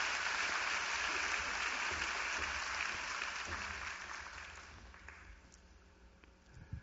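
A crowd applauds with steady, dense clapping that holds strong for several seconds, then gradually thins and fades away toward the end, with no talking over it.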